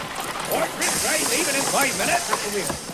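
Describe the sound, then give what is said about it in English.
A loud, steady hiss of steam bursts in and continues at a railway station, where a horse-drawn carriage has drawn up, while voices talk and murmur underneath. “They draw up at a railway station and the squire carries his wife from the horse-drawn carriage.”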